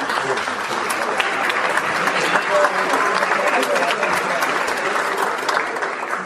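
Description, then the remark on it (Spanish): A crowd applauds steadily, a dense wash of many hands clapping at an even, fairly loud level that holds without pause for several seconds. “¿Ese aplauso es a favor o en contra de lo que dice?”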